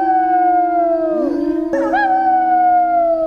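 Wolves howl together in a loud chorus, their long, wavering tones overlapping and sliding up and down. No one speaks.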